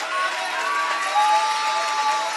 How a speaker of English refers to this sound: Can you clap your hands unto the Lord? Come on, can you clap those hands a little louder? Come on, can you clap those hands a little bit louder?